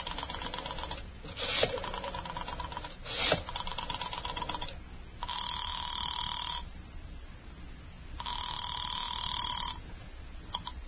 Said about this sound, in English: And Mrs. Morris, knowing how foolish it was, knowing it, went to the phone and dialed.